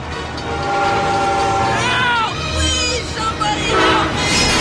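A Santa Fe train engine rounds a bend, rumbling loudly and steadily while its horn blares in long, wavering blasts whose pitch bends and slides, with no voices.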